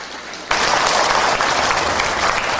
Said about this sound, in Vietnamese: Xin quý vị tán thán một tràng pháo tay.